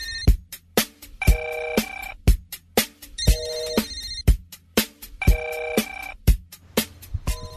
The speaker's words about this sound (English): Telephone. Line on the air.